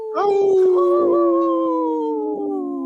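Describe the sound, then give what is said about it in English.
A person's voice imitates a wolf howl on Native Roots Radio, in a segment raising awareness of Minnesota's wolf population, one long sustained tone that starts with a rising wobble, then slowly glides downward in pitch, loud and steady for nearly three seconds. “I was gonna trying to howl and say no at the same time.”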